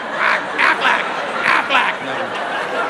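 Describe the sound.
A person does a nasal duck-quack imitation, a quick run of five or so harsh, honking bursts in an uneven rhythm, fairly loud.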